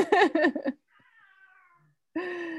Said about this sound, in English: I hear your kitty. Oh, she's very active tonight. I love her. I do too.